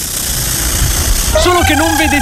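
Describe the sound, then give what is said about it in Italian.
A voice imitates a military drone with a steady, wavering buzzing hum that starts partway through and holds over a low rumbling engine-like drone. “Se ad un certo punto sentite un rumore di drone militare nell'aria, che fa...”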